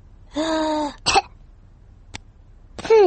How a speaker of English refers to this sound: Peppa listens to George's chest. Now, George, take a big breath in, then cough.